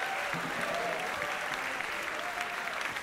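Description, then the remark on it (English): An audience at a band's concert claps steadily and loudly for John Hanson on tuba, a dense, continuous patter of many hands that holds at an even level throughout, with faint crowd murmur beneath it. “How about a round of applause for John Hanson on tuba?”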